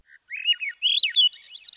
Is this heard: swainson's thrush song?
yes